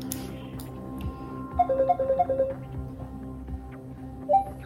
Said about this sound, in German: Ich schicke das Bild ab. Kurz danach klingelt mein Handy. Okay, es geht los. Die Gruppe ruft an.